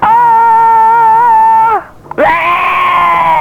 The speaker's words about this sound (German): Wir haben hier ein Testgerät, das so die Lautstärke der einzelnen Person gut messen kann. Möchten Sie mal so laut schreien, wie Sie können?